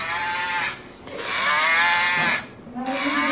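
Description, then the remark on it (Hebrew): A toy cow gives out a series of moos: three sustained, tonal calls in quick succession, the middle one longest, fairly loud, with no talking over them. “פרה.”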